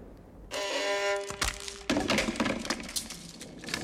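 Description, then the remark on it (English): A 17th-century violin made by Nicola Amati at Cremona cracks and splinters as a man puts his foot through the bridge and sits on the soundpost: a sustained string tone rings, then two sharp, loud cracks break in, followed by a spell of crunching, splintering clatter. “He's put his foot through the bridge and sat on the soundpost.”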